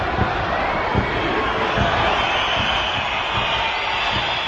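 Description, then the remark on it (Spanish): The large football crowd at Riazor stadium whistles in protest, filling the air with a dense, steady wash of whistling and roaring, sustained loudly for several seconds with no break or individual voice standing out. “La reacción de Riazor fue de pitar.”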